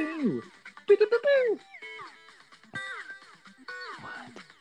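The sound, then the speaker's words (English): Retro 8-bit audio from an original Nintendo video game plays: buzzy square-wave bleeps and quick sliding pitch sweeps in short bursts, fairly loud and busy, with no one talking. “It's regular Nintendo Ninja Turtles.”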